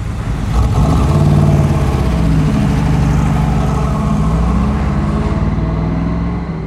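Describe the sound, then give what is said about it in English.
The big V8 engine of a 1967 Corvette L88 revs and rumbles loudly, its deep throaty growl rising and holding steady for several seconds before easing off. No voices are heard. “Is it a Corvette? 67, L88. Listen to her sing.”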